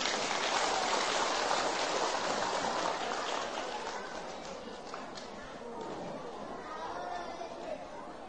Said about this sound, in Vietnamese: Nếu các cháu thấy việc làm này là có thể thực hiện được thì hãy dành một tràng vỗ tay thật lớn.